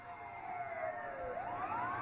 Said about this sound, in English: We heard a loud siren.